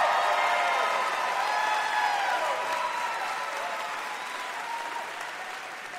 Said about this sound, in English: You get a little cheer just for saying Lady Vols.